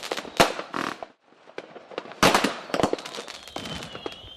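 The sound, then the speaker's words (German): Bangs and crackles of fireworks and firecrackers going off in quick irregular bursts, some loud, others sharper, with a faint whistling tone trailing through the end. “Aber durch das Verkaufsverbot von Pyrotechnik werden Böllerfans hohe Hürden gesetzt.”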